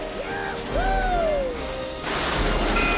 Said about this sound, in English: They crash into the warehouse and hurtle toward the lab. The car bursts in and crashes into a gurney, which rolls into the syringe tray.